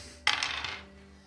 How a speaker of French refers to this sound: Écoute, allez, vas-y, lance tes dés.